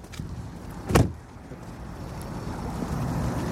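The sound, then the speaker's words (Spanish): A car rolls in and parks on a back street at a coliseum, its engine a steady low rumble, broken early on by one short, dull thump. No one speaks. “Cuando llegamos al Coliseo, … se estacionó en una calle trasera.”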